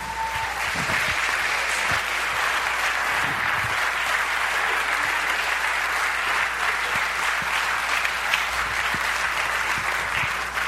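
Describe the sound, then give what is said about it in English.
Sustained applause from a church audience during a morning service, cheering its youth: dense and steady clapping from many hands holding an even loudness for about ten seconds, with no voices standing out above it. “Let's hear it for these youth of ours, eh?”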